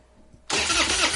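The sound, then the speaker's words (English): After a brief quiet moment, a truck engine that won't start suddenly cranks loudly, a harsh grinding churn that keeps turning over without catching. No one speaks. “When your truck won't start or your boat or ATV leaves you stranded far from home, that's not good.”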